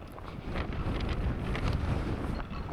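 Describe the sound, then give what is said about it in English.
Strong, blustery wind on a beach buffets the microphone in a steady low roar with gusting swells, a rough outdoor rumble with no voices present. “And I'm told that if you step down onto the beach here, it's not as cold as you might think on such a windy, blustery day, because there is still some, it is said, residual heat.”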